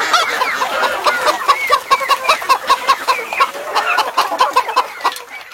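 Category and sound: animal, rooster crowing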